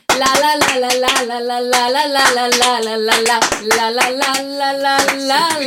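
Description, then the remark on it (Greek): Steady, rhythmic hand clapping keeps an even beat throughout, sharp claps landing roughly every third of a second along with a well-known song sung to 'la la la' syllables. “Πάμε παλαμάκια.”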